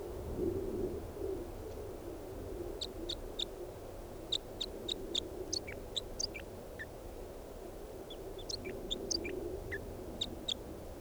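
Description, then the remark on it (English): A bird, numbered 395, sings in bursts of short, high, sharp chirps grouped into quick phrases with brief pauses between them, over a steady low hum. No one speaks. “I don't know what happened to the wild bird, but bird 395 is in song and pointed at him.”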